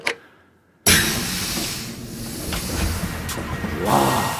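A brief hush, then an elevator, called with a button press, arrives with a sudden loud mechanical rumble and airy hiss that holds steady, marked by a few sharp clanks and a rising whine near the end.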